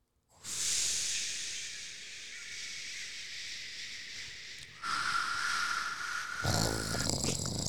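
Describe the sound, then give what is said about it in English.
A person voices a long, breathy hiss imitating white noise, steady for several seconds, then shifting to a louder, rougher, growling rasp near the end. Alone, with no other talk. “That's more of a lion. It's more of like a purple noise.”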